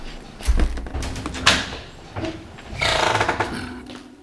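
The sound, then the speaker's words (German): A door is opened with a heavy thud, a sharp clack, and then a long scraping, grinding slide, all fairly loud with no voices. “Was ist das für eine Tür? Die habe ich zuvor noch nie gesehen. Öffnen”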